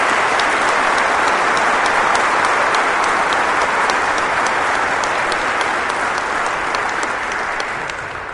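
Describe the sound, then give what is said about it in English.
Sustained applause from a sizable crowd, a dense wash of many hands clapping at once, loud and steady throughout before easing slightly toward the end. “If you ever played basketball, baseball, football, tennis, for Tim Hyman, stand up. Applaud that notion.”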